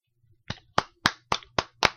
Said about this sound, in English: We were actually clapping. We were clapping screaming.